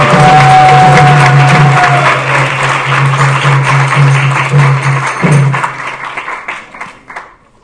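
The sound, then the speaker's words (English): A crowd applauds with steady, dense clapping that holds loud for about five seconds, then thins out into scattered claps and fades away; a low steady hum runs underneath most of it. The applause is for a group's enthusiasm in chanting the holy name at a talk on the Lord Chaitanya Sankirtan movement. “You should give them a big round of applause for enthusiasm.”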